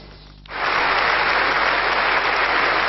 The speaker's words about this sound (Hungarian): Ekkora taps fogadta a törvény elfogadását.